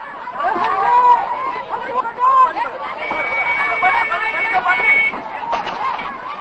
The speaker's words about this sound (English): As the truck rolls in, chaos ensues. People rush ahead, some even scramble onto the vehicle and push pipes into the tank in a desperate bid to ensure that they can fill their buckets and cans.